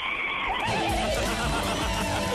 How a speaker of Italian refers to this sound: Un cavallo. Mamma mia, bello.